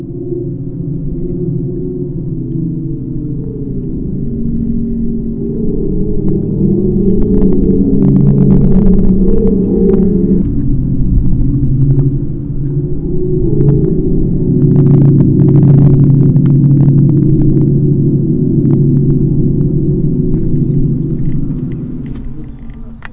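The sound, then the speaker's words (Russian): A steady, droning hum of layered low tones that swell and shift slowly in pitch, from a wind-powered musical tree sculpture on a Pennine hill above the town of Burnley, mixed with a rough rumble of wind and occasional faint crackles, with no voices. “Смотрите, там вдалеке виднеется городок Бернли, и над всем этим великолепием задумчиво и таинственно гудит музыкальное дерево.”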